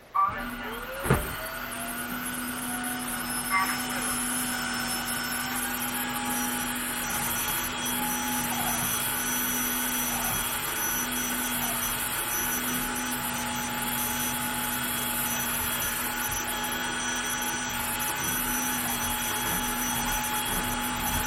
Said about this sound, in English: vacuum up the floor because I have no life.